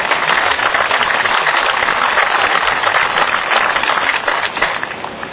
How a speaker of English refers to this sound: If you please stand, give them a round of applause.